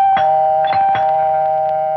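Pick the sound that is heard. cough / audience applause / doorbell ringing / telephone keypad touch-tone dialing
doorbell ringing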